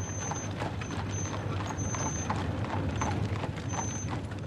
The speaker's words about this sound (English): The familiar sound of the horses clattering on the cobblestones of the narrow alleys